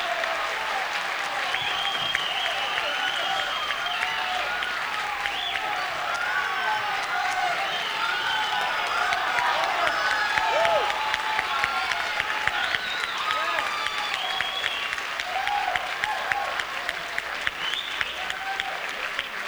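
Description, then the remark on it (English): A small live audience applauds steadily for about twenty seconds, a dense wash of clapping mixed with scattered cheers, whoops and shouts, holding a fairly constant, full level throughout. “You've really been a nice crowd tonight.”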